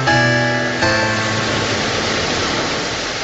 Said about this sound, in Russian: Страшная буря поднялась в океане. Волны белыми своими языками слизывали звезды, которые ближе к земле.